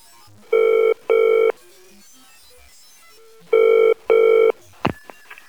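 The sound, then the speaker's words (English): A telephone rings in the classic double-burst pattern, two short rings, a pause, then two more, loud, followed by the clunk of the receiver being picked up, on a call to the firm Baker and Parsons. “A number's ringing for you.”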